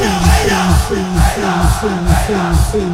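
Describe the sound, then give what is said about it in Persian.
A large crowd shouts a short call, "hina," together, again and again in a steady, rapid rhythm, loud, with the many voices blending into one chant. “حالا با فریاد بزنید هینا.”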